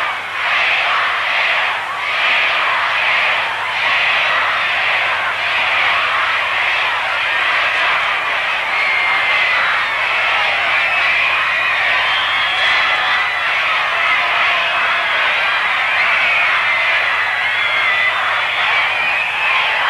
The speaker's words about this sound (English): Now we're going to get a bit of a chant going here for you to give you an idea. Here we go.